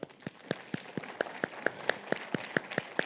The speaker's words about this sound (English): Can you do me a favor? Can you clap for us?